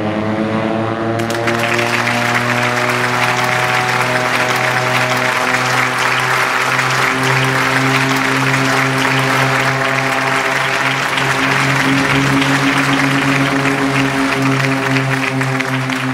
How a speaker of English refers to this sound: The airport tower resounded with cheers and applause as my pilot,